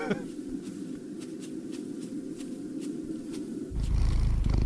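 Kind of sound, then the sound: animal, cat purring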